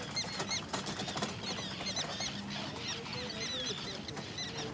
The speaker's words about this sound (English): Yeah, you can hear them there. That's common terns. There they are, just going over.